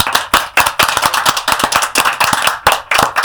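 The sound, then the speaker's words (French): Applause from a group for lawyer Caroline Mécari at the end of a broadcast interview, a dense stream of overlapping hand claps that stays loud and steady throughout, with no voices. “Je vais demander à tout le monde de vous applaudir et de vous remercier.”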